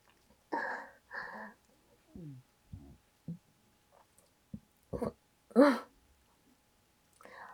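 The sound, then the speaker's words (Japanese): A loud, low, throaty burp rises out of a series of short breathy vocal sounds and soft clicks, standing out as the strongest sound near the end. “すごい大きいゲップが出てきちゃった”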